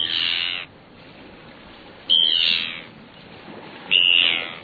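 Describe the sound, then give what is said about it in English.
Three harsh, grating Arctic tern calls ring out alone, each a loud, high-pitched rasp lasting about half a second to a second, separated by short pauses. “We used to think that Arctic terns traveled 25,000 miles a year, making them the long-distance champions of migration.”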